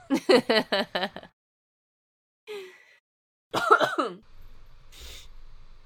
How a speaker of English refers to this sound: I'm so sorry. I keep coughing. It's going to keep happening. I apologize.